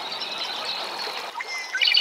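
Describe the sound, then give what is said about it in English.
A male red-winged blackbird about 10 feet away gives its gurgling song: soft, hissy chatter builds over a steady high buzz, then ends in a brighter burst of quick, liquid, trilling notes. No one speaks. “Sort of a gurgling song.”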